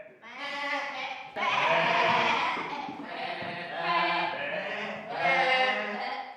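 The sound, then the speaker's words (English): Several actors in sheep costumes in a children's stage production bleat together like a flock of sheep, overlapping wavering baa sounds in repeated loud bursts, continuous, human voices imitating the animals. “And when you see all of them come out in sort of in a flock bawing, it's just really hilarious and adorable.”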